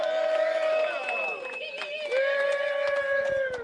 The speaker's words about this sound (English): What are y'all cheering about? That it's about to be over?